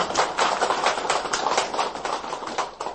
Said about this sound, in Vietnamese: Rồi, giỏi, cho đàn pháo tay lớn.